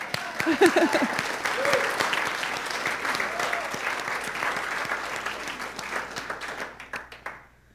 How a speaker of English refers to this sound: And I know at Unity we clap for truth, don't we? Let's do that.